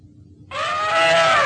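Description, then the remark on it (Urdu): An elephant trumpets once, a loud, brassy, sustained blast lasting about a second after a moment of near silence, close and alone with no voices. “ہاتھی؟”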